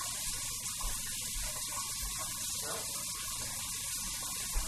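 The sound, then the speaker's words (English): A steady, hissing stream of tap water runs without a break while dishes are being washed, with a couple of soft low knocks as the dishes are handled under the flow. “Which is why I'm doing the dishes.”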